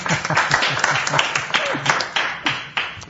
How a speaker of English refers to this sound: It's all right, yeah, you guys keep clapping.